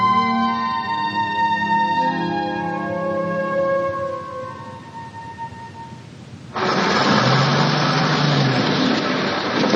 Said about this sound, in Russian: Грузовая машина с грохотом едет по извилистой дороге. Руки шофера крепко сжимают руль.